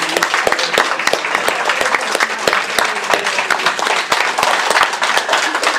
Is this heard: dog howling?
no